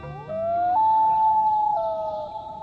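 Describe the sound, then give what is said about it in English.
A common loon gives a long, haunting wail: a clear tone that slides upward, holds steady, then shifts pitch slightly before fading. The call is loud and alone, with no voices. “Loons are built for life in the water.”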